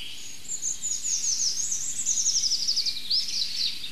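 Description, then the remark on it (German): Soft, high, thin birdsong of a European robin trickles along continuously in the background, a delicate string of quick twittering notes and trills with no voices present. “Ach, schön zartes Rotkehlchen im Hintergrund.”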